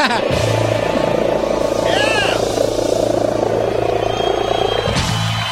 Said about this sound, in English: The loudest purr in the world.